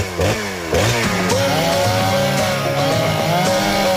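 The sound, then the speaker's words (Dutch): A chainsaw sputters briefly, then roars into a loud, steady run, its buzzing engine pitch swooping up and down with each rev for about four seconds. “Hup, kettingzaag aan.”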